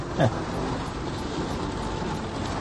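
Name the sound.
rain falling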